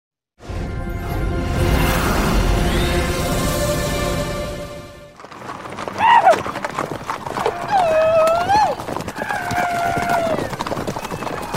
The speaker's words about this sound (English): The thundering hooves of many horses.